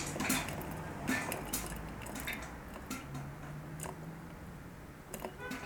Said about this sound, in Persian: حالا نیاز هست که آروم آروم زاویه رو تغییر بدیم. آبی جوش بخار داره، طبیعیه. آروم با بینی نفس میکشیم، صدای پر شدن آب میاد.